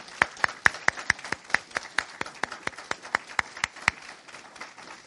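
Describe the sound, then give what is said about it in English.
Sharp, separate handclaps in a steady, fairly quick rhythm for about four seconds, then tapering off; sounds like a small audience applauding to congratulate a new father on the birth of his first child, with no talking. “I'm ready for another round of applause for him.”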